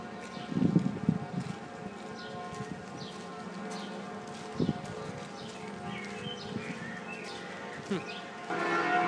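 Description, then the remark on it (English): The bells of Notre Dame ring continuously at 5:35, heard from outside the back of the cathedral, their sustained overlapping tones forming a steady metallic hum, with faint bird chirps and scattered footsteps or clatter in the open air around them. “Now we're outside the back of Notre Dame. And some bells are going off.”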